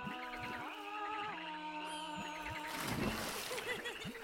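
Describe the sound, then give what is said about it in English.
Warbling, gliding tones lead into a broad splash of something dropping into water from a water slide, followed by sloshing and bubbling that settles over the last second. “Another water slide! Again, again!”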